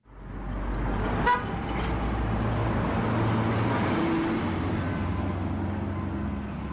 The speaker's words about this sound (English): Home Sweet Home reads the sticker on the minibus taxi's back windscreen as it speeds through a red traffic light in the Johannesburg city centre.